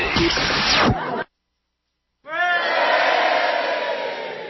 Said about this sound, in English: Mustn't forget the cheering, it's very important.